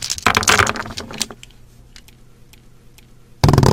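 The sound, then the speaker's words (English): Gaming dice clatter across a game board in a dense, rattling burst, then settle with a few scattered light clicks before another sharp loud clatter, on a different, drum-like surface, cuts in at the end. “That's a different surface. Like a drum.”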